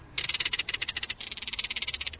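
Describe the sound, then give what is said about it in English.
A crested caracara gives harsh, rattling calls: rapid, dry, evenly spaced pulses running in two long bursts with a brief dip between them, fairly loud and scratchy, with no voices. “These weird calls come from a crested caracara, one of North America's most charismatic birds of prey.”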